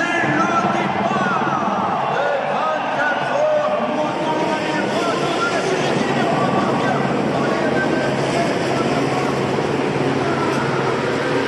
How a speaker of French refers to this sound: Les deux roues à Paris, c'est un peu le grand écart. Chez les opposants, il y a notamment le bruit pétaradant des motos et scooters. Ça donne à peu près ça en ressenti, notamment lorsque le feu passe au vert.